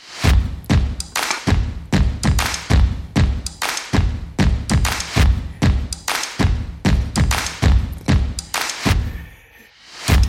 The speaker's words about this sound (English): And I know, well, you hear that stomping and clapping sound.